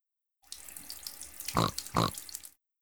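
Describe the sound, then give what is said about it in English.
Peppa pours water steadily from a watering can onto the soil where a seed was planted, for about two seconds, a hissing splash, with two short grunting snorts breaking through near the end. “Peppa got a watering can and put some water on the soil.”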